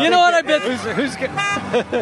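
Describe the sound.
A car alarm blares with a loud horn-like tone and then repeating rising-and-falling wails, while people talk over it.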